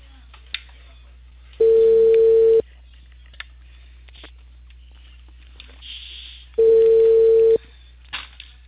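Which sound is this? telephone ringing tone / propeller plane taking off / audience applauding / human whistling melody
telephone ringing tone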